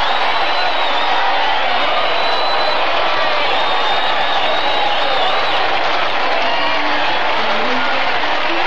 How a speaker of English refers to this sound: Muncie's mob was polite to me, Pat, but they're cheering you.